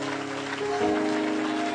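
audience clapping hands

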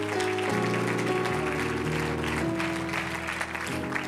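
audience hand clapping

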